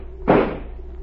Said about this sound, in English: Stand away from the door. I'm going to shoot the lock.